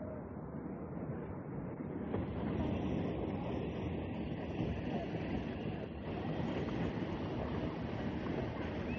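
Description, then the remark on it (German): A train rumbles steadily at Winterthur railway station, a dense, continuous roar of wheels and machinery that holds at the same loudness for the whole stretch without clear breaks or announcements. “Am Bahnhof zu Winterthur steht der Malerlehrling Rudolf Lüssi und wartet auf seine Schwester, die da umsteigen muss.”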